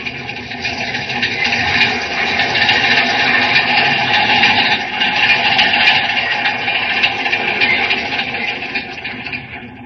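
A steady, loud mechanical rumble with a bright, hissing high-end roar and faint metallic squeal, like an underground train grinding around a curve in a tunnel; no one speaks.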